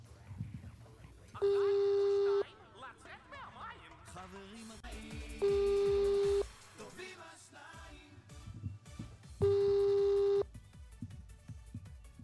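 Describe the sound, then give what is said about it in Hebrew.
A phone line rings out, three steady electronic ring tones about four seconds apart, loud, with people talking and moving in between and underneath. It is a surprise prize call placed from a live broadcast studio to a listening family in Elad. “הפתעות, שיחות טלפון בהפתעה.”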